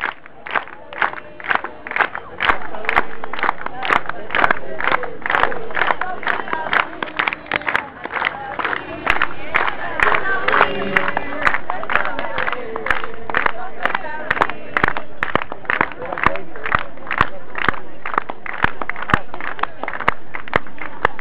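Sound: crowd applauding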